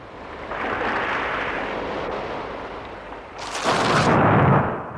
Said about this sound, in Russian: Гром и молния! Океан становится на дыбы.